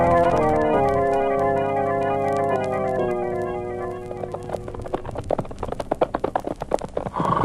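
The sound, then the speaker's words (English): Sustained music plays, then fades into a steady series of sharp hollow hoof clops from a horse being ridden at a walk at night, fairly loud, with no voices. “Maybe I shouldn't have been so quick about saying I could ride a horse.”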